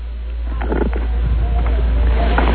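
Rip Taylor, on the phone to the Don and Mike Show, lets out a loud, drawn-out burp through a muffled, phone-quality line, rumbling and gurgling for a couple of seconds with a low steady hum underneath.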